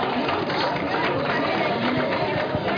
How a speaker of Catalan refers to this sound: Un fort aplaudiment per ella.